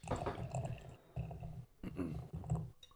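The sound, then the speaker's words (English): A knife scrapes and saws through the wax cap on a bottle of Rare Form, a 12% barrel-aged Belgian quad from Amplified Ale Works, in three or four rough, uneven strokes separated by brief pauses. No one speaks. “It has a wax cap. And so... It's dangerous. I wasn't prepared for that with my usual knife.”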